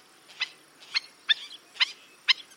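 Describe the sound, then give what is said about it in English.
Black-necked stilt alarm calls signalling that a predator has been seen: five sharp, high, yapping notes repeated at a steady, quick rhythm, each loud and clipped, with no other sounds around them. “They leap into the air and call with an intensity and volume all out of proportion to their delicate appearance.”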